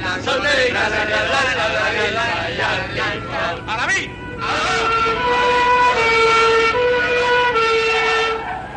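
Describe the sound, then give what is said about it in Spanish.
A police car's siren blares loudly, first wavering in pitch, then holding steady tones as the car approaches over a busy background of traffic and murmuring voices. “Se acerca un coche de policía.”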